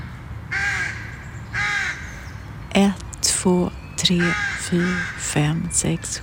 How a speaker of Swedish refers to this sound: Ovanför mig i trädkronorna ropar råkorna. De har flera bon här uppe.